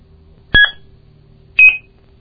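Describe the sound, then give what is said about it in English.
Two short, loud electronic wake-up alarm beeps from a Braille notetaker, playing through both headphones and the keyboard speaker, about a second apart, each a bright two-tone chirp sounding alone against a quiet background. “So, the Braille note is completely off, the Braille cells are all down, all is right with the world. And we now await the alarm to go off.”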